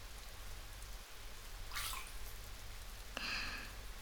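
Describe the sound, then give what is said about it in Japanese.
Soft, steady rain hisses in the background with a low rumble beneath, broken by a couple of brief, brighter splashes or drips. No one speaks. “このまま温まるまでアンさんも雨の音を聞いてな。”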